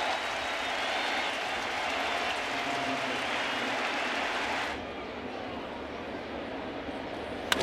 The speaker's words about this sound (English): And the crowd stands to give an ovation to Pineda.